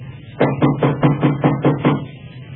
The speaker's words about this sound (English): Did you hear anything? Yes. Sounded like somebody knocking, didn't it?